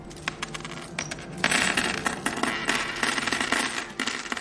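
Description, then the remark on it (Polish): Aluminium coins from communist-era Poland, of various denominations including one-złoty and five-złoty coins, clatter and jingle continuously, a dense spill of light metallic clinks tumbling over one another, growing busier partway through and never pausing. “To są monety aluminiowe z PRL-u. Różny nominał i są złotówki i pięciozłotówki.”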